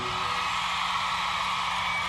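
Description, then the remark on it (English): A dense, steady roar of audience noise, with women's high-pitched screams and cheers blending together, loud and sustained throughout, at a live show. “All the ladies in the house scream tonight.”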